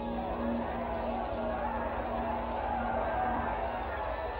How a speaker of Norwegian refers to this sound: Lilleputtene jublet for den flotte båten